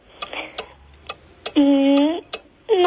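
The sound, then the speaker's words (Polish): An old pendulum cuckoo clock ticks steadily, sharp clicks about twice a second, clear, while a person speaks briefly over the ticking partway through and again near the end. “Bo to chyba jest stary zegar. Jak myślisz, co? Wahadło. Dobrze, zaliczam. To zegar z kukułką, ale kukułka pewnie jest później.”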